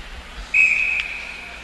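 A single sustained referee's whistle blast at an ice hockey game at Kenyon, called for offside with 16:51 left in the first period, steady and shrill, starting abruptly and holding for over a second amid low arena background noise.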